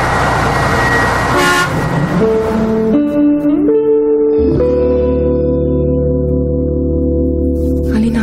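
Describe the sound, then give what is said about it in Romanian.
Nena Vlad's car pulls up with a low engine rumble, then its horn blares in long, loud, sustained toots that step up in pitch. No one speaks. “Uite mașina lui Nena Vlad!”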